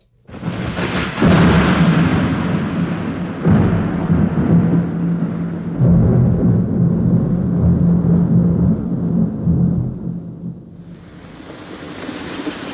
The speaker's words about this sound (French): Tiens, voilà la pluie.